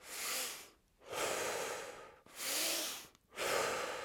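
Deep, forceful breaths drawn in and pushed out in a steady rapid cycle, four broad whooshing breaths close to the microphone with short pauses between them, no talking.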